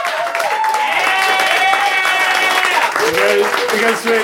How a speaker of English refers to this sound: So I would like a round of applause